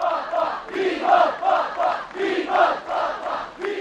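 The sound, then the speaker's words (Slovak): A large crowd in Bucharest, Romania, cheers and chants welcoming Pope John Paul II during his 1999 visit, in steady rhythmic bursts, loud, overlapping voices rising and falling about twice a second, with no single speaker standing out. “Do dejín vstúpilo srdečné prijatie pápeža Vojtilu v Bukurešti.”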